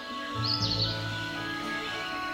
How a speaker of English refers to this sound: One morning, the giant was lying awake in bed when he heard some lovely music. It sounded so sweet to his ears that he thought it must be the king's musicians passing by. It was really only a little bird singing outside his window.